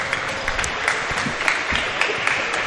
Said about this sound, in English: Both teams clapping it up, getting ready to come out on the court again.